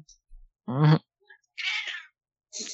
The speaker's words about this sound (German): Na, ich höre schon, deine Katze stimmt mir zu. Yep, ja, stimmt dir zu, voll und ganz.